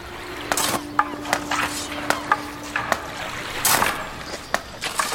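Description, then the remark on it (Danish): Harvest baskets being filled with mud: a quick, irregular series of wet slaps and squelchy thuds, about a dozen in a few seconds, over a faint watery background. “Og høstkurve, der fyldes med mudder.”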